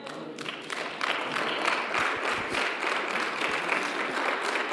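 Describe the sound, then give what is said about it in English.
A crowd claps steadily, a dense wash of overlapping hand claps that swells slightly after the first second and holds at an even, fairly loud level with no voices over it. “Some of y'all are clapping and looking straight.”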